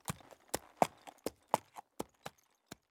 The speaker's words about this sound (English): She got on the horse and rode out to the field.